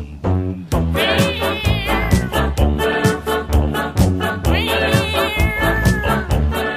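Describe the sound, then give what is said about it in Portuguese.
A loud, bouncy brass tune from a band at a garden bandstand, with a low tuba line, Serafim's tuba with a cat inside it, its notes bending upward in whiny, cat-like meowing slides twice over a steady oom-pah beat. “Eis que um dia entrou um gato na tuba do Serafim, e o resultado foi que a tuba tocou assim.”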